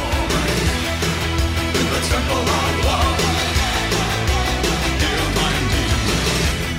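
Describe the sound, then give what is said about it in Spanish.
A dense, continuous wash of voices shouting and yelling somewhere in the background, steady in loudness throughout with no clear words standing out. “Por ahí están pegando gritos, ¿quién será?”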